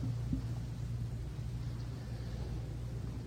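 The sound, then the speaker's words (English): A diesel truck coming around a bend ahead on a freeway: its engine drones low and steady with a deep rumble and a rough hum, staying at fairly even loudness over a few seconds with no voices. “One day we're going along the freeway, 90 miles an hour, and around the bend up ahead comes another diesel truck.”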